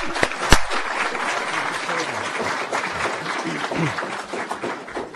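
Sustained applause from a sizable crowd at a Hall of Fame induction event, greeting the evening's emcee, a dense wash of many hands clapping at steady volume throughout, with faint murmurs and a cheer or two mixed in.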